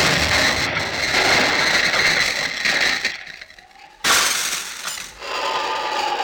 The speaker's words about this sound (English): There. That is the explosion and broke the window of the cottage.